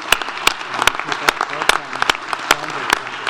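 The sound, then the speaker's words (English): An audience at a meeting applauds steadily in a round of applause for the contributions of those present, a dense wash of many hands clapping at a moderate level, with sharper individual claps standing out at an irregular rhythm throughout. “And I think we could also join together in a round of applause for the tremendous contribution from all of you.”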